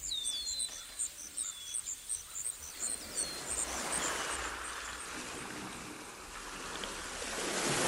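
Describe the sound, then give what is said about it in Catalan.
Waves wash onto a beach where a river flows out, in a soft, rising rush of surf that swells toward the end, after a few seconds of repeated high chirping calls. No one speaks. “Per sort, en aquesta platja desemboca un riu.”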